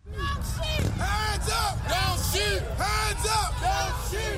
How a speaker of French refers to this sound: Mais en l'air, avec des éclats de voix, les manifestants ont défilé pendant des heures dans la ville de Baltimore. La foule en colère a érigé des barricades par endroits pour exiger de l'explication sur ce dernier acte de brutalité policière.